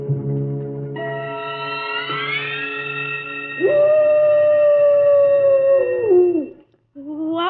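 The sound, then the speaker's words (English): A long, sustained wolf howl with layered tones rising and then holding steady before sliding down, joined by a second howling voice, loud and close with no talking. “That was merely the soul of a wolf passing by the Kurgatorium.”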